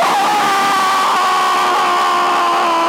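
Two men scream together at full volume, a harsh, continuous yell held for about three seconds without a break, loud, with no speech around it.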